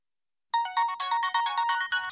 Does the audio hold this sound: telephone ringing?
yes